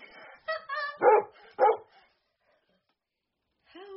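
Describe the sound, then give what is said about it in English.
A police dog lets out a quick run of sharp, loud barks, then falls silent for a couple of seconds before one more bark at the end. “Dog. Good.”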